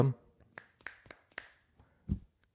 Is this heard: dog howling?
no